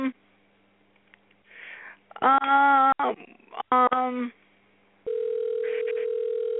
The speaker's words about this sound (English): Uh-oh. Hello? I hear a dial tone.